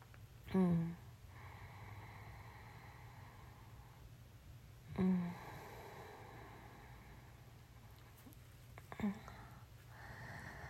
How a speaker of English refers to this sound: I've been on a breathing kick lately. Like a forceful breathing kick.